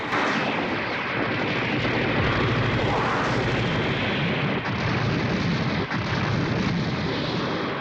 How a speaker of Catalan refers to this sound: A través d'una pantalla, la Mai veu que estan envoltats per un núvol de centenars d'avions. En Pilaf crida esfereït. La nau comença a disparar contra els avions que es mouen com a mosques.